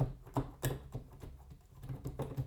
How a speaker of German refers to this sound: Und zum Abhören ist ein Kopfhörer sinnvoll, das Ganze nehme ich hier binaural mit dem Sennheiser Ambio Smart Headset auf. Das Keyboard ist ausgeschaltet und ich spiele hier einfach mal so auf der Tastatur herum.